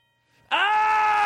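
doorbell ringing

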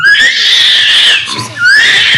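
howler monkey call

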